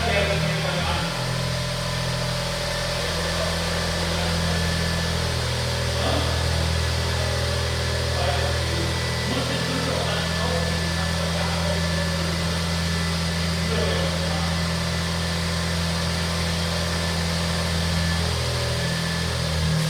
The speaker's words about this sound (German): So, das Brummen, was ihr hört, das, ob ihr es glaubt oder nicht, ist der Smart Roadster, den Jens verkauft hat.